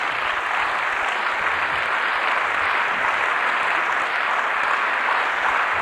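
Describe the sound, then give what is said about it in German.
Steady, loud applause from an audience at the end of a lecture, a dense continuous wash of clapping that holds at an even level for several seconds with no voices on top. “Ja, meine Damen und Herren, ich sehe am Applaus, dass Sie sehr Freude dran haben.”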